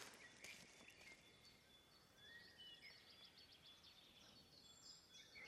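A common blackbird calls with scattered fluty, whistled phrases during an evening walk in cold weather, set against a steady hiss of outdoor background noise.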